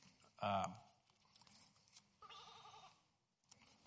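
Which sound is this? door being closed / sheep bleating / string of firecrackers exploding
sheep bleating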